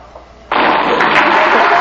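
Applause bursts in after a quiet half second, a dense, steady wash of clapping that stays loud and even until the end, with no voices standing out.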